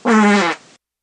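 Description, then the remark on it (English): A single loud, buzzy fart sounds for about half a second, then trails off into a brief, softer sputter before silence. “And I didn't know if they sniffed their own farts or not.”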